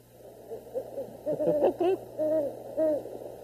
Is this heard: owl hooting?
yes